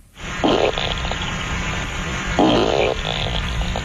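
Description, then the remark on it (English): A beaver at the water's edge, caught on a trail camera, farts twice: two short, rumbling bursts about two seconds apart, each lasting roughly half a second, over a steady outdoor hiss of wind or ambient noise. “Yeah, that's right, the old double fart from the beaver.”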